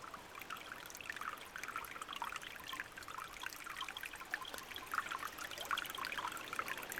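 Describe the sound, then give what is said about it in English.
Water trickles steadily, a continuous bright babbling with small splashes and gurgles throughout, with no voices present. “Sound, listen sound, water, crickets,”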